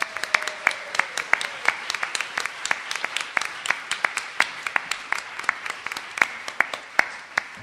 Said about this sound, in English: I do want to give a rousing applause for these lovely, smart people.